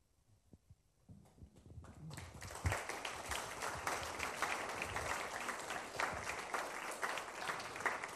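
Applause from an audience starts with a few scattered claps, then swells within a couple of seconds into steady, dense clapping that stays loud and full through the end.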